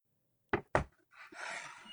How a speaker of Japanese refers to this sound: 扉を開けると室内の温度が流れ込む。